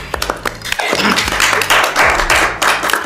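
A burst of applause on the Italian radio show Radio Dinamo after a story is told, many hands clapping in a dense, loud, continuous patter for about three seconds, with sharper individual claps at the start and a low steady hum underneath.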